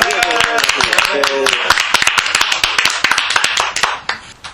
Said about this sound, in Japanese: こちらの拍手聞こえましたか。 あ、ごめん、聞こえてないわ。 じゃあもう一回拍手しておきます。おめでとう。